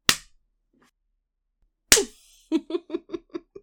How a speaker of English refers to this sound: Aww, does it hurt? When my hand slaps you hard around your loser face.